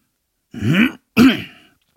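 Two forceful throat clearings, one right after the other, the second trailing off a little longer. Fairly loud, with no speech around them.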